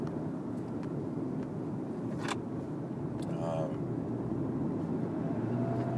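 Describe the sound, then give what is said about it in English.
A big truck rumbles past, a loud, steady low roar filling the whole stretch, with a brief airy hiss and a short squeal partway through. “Whoa, big truck. Whoa, big truck incoming.”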